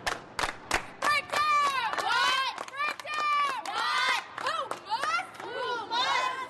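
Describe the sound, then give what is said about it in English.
A high school girls' basketball team shouting a rhythmic pregame cheer together, led by a 15-year-old girl before their semifinal game, loud, with a few sharp claps at the start and excited overlapping calls throughout. “leads her team in a cheer before their semifinal game against the undefeated Cottage Hill Mustangs.”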